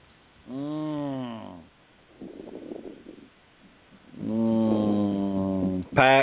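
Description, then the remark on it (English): Heavy breathing into a phone on a live call: long groaning, voiced exhales alternate with a rough, noisy inhale, loud and uneven, with no words spoken. “Who's breathing in the phone?”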